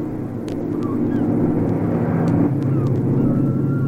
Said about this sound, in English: A plane.